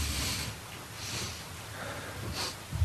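A person sniffs the air in a few sharp, breathy bursts spaced about a second apart, clear with no talking over them.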